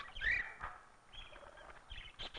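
Squawking calls of birds from far corners of the world in a circus act in the center ring, with a bright shrill cry near the start followed by several shorter chirps and squeals, moderately loud over a faint background murmur.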